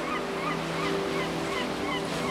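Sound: ocean waves on shore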